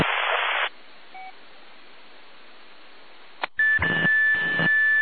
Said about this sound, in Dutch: Nou, die pieper hebben we niks aan. Zijn er nog meer inmelders voor Unabedronde? Die pieper, dat is Echo, Juliet, Yankee uit Wetzel, toch geloof ik. Die probeert zich net te melden, maar die begint eerst met een hele lange pieptoon in die set.